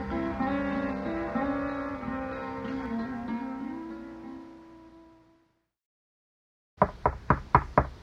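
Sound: knocking on a door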